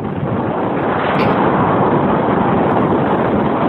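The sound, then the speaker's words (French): A glacier collapsing: a deafening, continuous roar of deep rumbling noise that holds steady for several seconds, with no voices. “Eh bien, c'est le bruit assourdissant que fait un glacier lorsqu'il s'effondre.”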